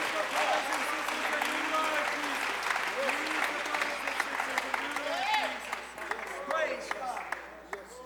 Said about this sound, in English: Praise God. Somebody clap your hands fuerte and praise. Al Señor.